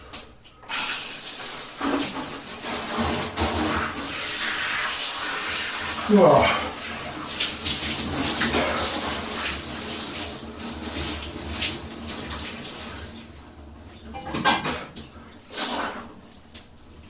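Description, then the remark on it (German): Water pours steadily from a shower, a broad hissing spray that fills the space for most of the stretch, with a brief clunk and some movement partway through before it thins out near the end. “Was in dieser Dusche schon passiert ist.”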